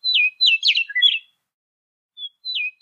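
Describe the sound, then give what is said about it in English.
A recording of a songbird singing a quick run of bright, descending whistled notes, pausing, then adding a couple of short fading phrases. Clear, with no voices. “Compare that to, they had recordings of the eastern bluebird from New York, or the western meadowlark, which is the state bird of Oregon and many other states.”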